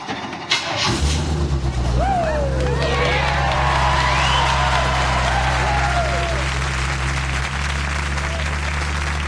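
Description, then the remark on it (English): A car engine cranks briefly and roars to life at Tool Time's first annual quarter-mile drags, then settles into a steady low rumble while a crowd claps, cheers and whistles over it. “Just start the car.”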